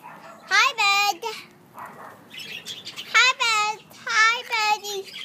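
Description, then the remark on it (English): A white bird in a cage chirps loudly in three short bursts of bright, warbling calls, with brief quiet gaps between them over a faint background hum. “Oh, the bird is having the race.”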